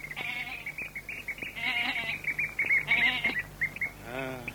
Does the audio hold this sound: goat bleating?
yes